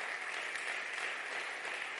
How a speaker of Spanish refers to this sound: Amén. Dar un fuerte aplauso al Rey.